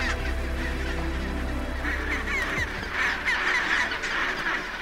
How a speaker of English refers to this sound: There's nothing quite like arriving at a penguin colony. It is a complete assault on the senses. It's noisy, it's really smelly, and there's just so much going on.